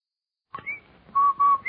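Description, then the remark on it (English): A short, bright whistled jingle, a few clear pitched notes rising and holding, loud with no talking: the Rinso White advertising whistle for Rinso, a product for washing clothes. “That whistle. That's the Rinso White whistle.”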